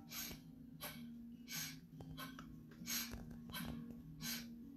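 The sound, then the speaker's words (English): Quick, rhythmic sniffle-like nasal breaths in and out during a breathing technique, the belly drawing in on each exhale, about six or seven sharp, hissy bursts in a few seconds, over a faint steady low hum, with no talking. “So the breath out is just like a sniffle out, and the breath in is just like a sniffle in.”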